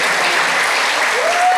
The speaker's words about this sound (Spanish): Aplauso para la mamá. Genia total.